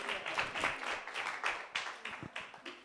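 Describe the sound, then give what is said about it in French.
A church audience bursts into sustained applause for God, many hands clapping in a dense, steady wash with scattered sharper claps and a few cheers rising through it. “On peut applaudir Dieu parce qu'on a vraiment un grand Dieu.”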